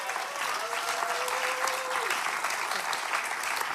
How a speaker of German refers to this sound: Jetzt kannst du klatschen.